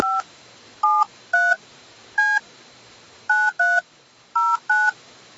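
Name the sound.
telephone keypad dialing tones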